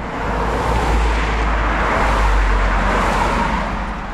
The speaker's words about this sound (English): Cars speed by the road right next to Walden Pond.